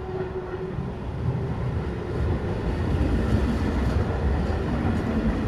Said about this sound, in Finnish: Palaan kaupungin keskustaan. Keskusasemalle saapuu juna Malmöstä.